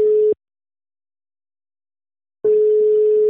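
A telephone ringback tone heard while placing a call: a steady, fairly loud single-pitch beep cuts off, then after a two-second silence sounds again, with no voices.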